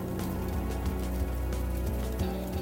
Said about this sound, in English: The fabrics on the bus, or yourselves, is suffering wear and tear as this rain that isn't teal begins to fall on everything.